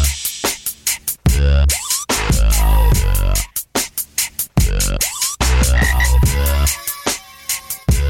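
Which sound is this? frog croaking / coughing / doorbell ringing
frog croaking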